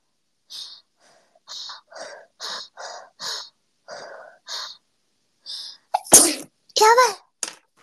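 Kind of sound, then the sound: human body sound, loud sneeze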